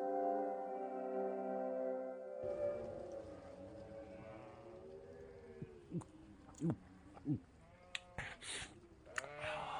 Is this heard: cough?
no